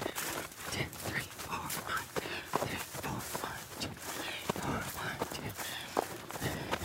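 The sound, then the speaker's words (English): Running footsteps strike in a steady, even rhythm, moderately loud, with a soft scuff on each landing and faint breathing between the steps. “I know the sound that my feet, about what an 8-minute pace would be, how my feet would sound.”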